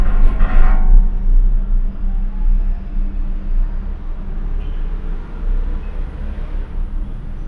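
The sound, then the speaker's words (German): A cable car gondola of the city's Teleferico moves above the city with a steady, loud low mechanical rumble and drone, opening with a brief rattling clatter before settling into a continuous hum. No voices. “Ganz anders ist das Gefühl der Fortbewegung, wenn man in die Seilbahn steigt.”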